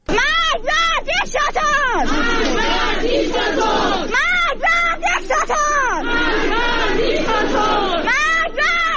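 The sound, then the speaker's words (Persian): A large protest crowd in Iran chants slogans in unison, loud and steady throughout, with rising and falling voices repeating short rhythmic phrases over a constant roar of many people. “اعتراض‌ها و تظاهرات روز و شامگاه شنبه در مناطقی از تهران از جمله بازار پایتخت، مشهد، گرمدره کرج، جوانرود، سنندج، سمیرون و اصفهان ادامه یافت.”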